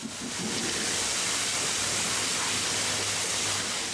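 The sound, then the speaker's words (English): A steady, hissing rush of water spraying from a hose at a car wash, used to spray off a motorcycle, fairly loud, continuing without pause for several seconds with no one speaking. “Or if you prefer motoring around town on two wheels, they can spray off your motorcycle with a water hose.”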